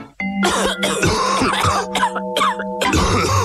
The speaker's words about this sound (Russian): Что случилось? Это кашель.